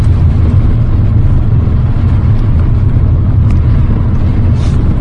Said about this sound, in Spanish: Va el motor alegre, como dice Alberto, y recupera bastante bien.